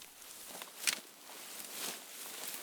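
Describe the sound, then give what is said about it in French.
Quiet, uneven footsteps shuffle and crunch close by around a tent in the evening, a few soft steps with one sharper scuff, over a faint background hiss and no voices. “Puis comme ils sont en train de s'installer, ils entendent des bruits de pas tout près.”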